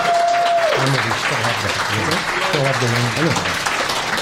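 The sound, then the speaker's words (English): An audience claps steadily for several seconds, a dense, loud wash of applause for the staff at Kelsey's, while a voice calls out and talks over the clapping. “Let's give the staff here at Kelsey's a round of applause.”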